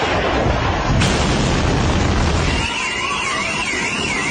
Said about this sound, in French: Bombardements, explosions, sirènes, plusieurs grandes villes israéliennes visées cette nuit encore, des missiles sur Jérusalem, d'autres sur Haïfa, bilan 4 morts, près d'une centaine de blessés.